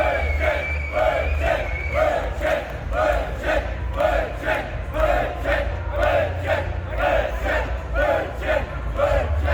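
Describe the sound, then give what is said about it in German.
A large festival crowd chants "Brötchen" over and over in a steady, driving rhythm, loud and unbroken for the whole stretch, with a low rumble beneath the massed voices. “Diese schöne Dynamik auf Festivals.”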